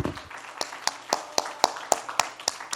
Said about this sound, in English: Would you clap your hands to the Lord God? What an awesome God he is.